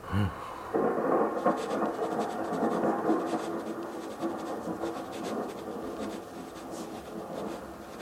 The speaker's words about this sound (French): L'orage frémit, gronde, grince et explose.